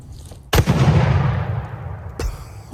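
Two loud rifle shots, fired from a rifle resembling an AR-15 at a voting machine, about a second and a half apart, each cracking sharply and rolling off in a long echoing tail, then a brief third report right at the end. No one speaks.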